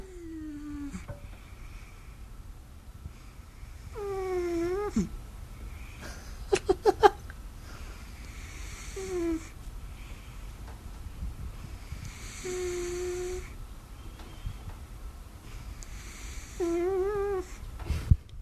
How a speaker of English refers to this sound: We are a house of snorers, my That's friend. So cute.